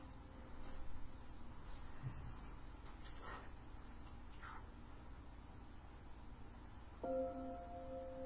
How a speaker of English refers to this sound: So there are the Tibetan bells. They're very light. But at least you'll know there's sound.